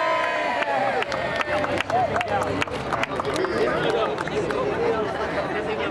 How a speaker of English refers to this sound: There were cheers and applause as Councilman Mitch O'Farrell made the honorary cut at the ribbon ceremony. He unveiled a concrete sign that read Historic Filipino Town, today in the area of Temple Street in downtown Los Angeles.